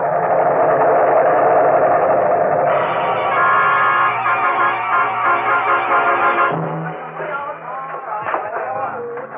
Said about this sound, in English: Here comes another plane.